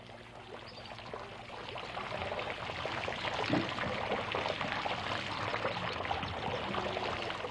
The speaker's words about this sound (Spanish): Por lo pronto, recordándole, está el ruido del agua.